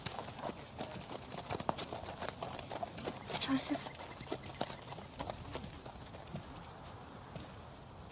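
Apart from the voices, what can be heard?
donkey hooves clip-clopping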